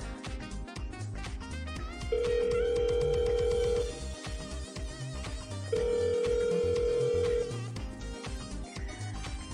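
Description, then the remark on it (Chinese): The ringback tone of an outgoing call to a best friend, asking her to come pick the caller up, sounds twice, each a steady buzz of about two seconds separated by a pause, heard over constant busy background music. “好了，我这就给闺蜜打电话，让她来接我。”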